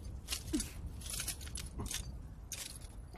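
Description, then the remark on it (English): A few tin coins jingle and clink in several short, uneven bursts, as if shaken or sifted in a hand. The sound is fairly quiet, with no talking. “These coins are made of tin.”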